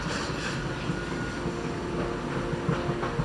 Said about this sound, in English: A train speeds past.